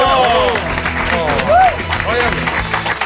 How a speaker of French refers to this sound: Ah, parce que plus, on a un public chaleureux qui applaudit.